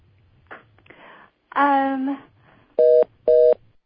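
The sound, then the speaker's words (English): Two short, identical electronic beeps in quick succession, steady and tonal like phone keypad tones, following a brief burst of voice and faint background noise. “I heard a beep there, two beeps.”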